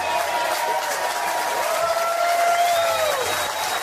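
Manly fans in a stadium applaud steadily as Jake Trbojevic goes off the field, a dense, even wash of clapping and crowd noise lasting the whole few seconds, with a thin whistling tone gliding through it.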